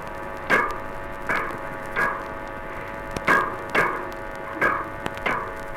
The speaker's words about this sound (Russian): А это тоже ласкирь, но в другое время. Порывистые поступательные движения у ласкирей сопровождаются громкими звуковыми импульсами.